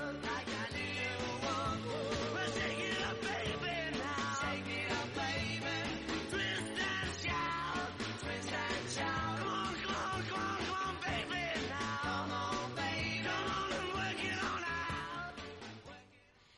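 A loud, energetic rock and roll song plays continuously with driving band instruments and shouted vocals, then quickly fades out at the very end. No one talks over it.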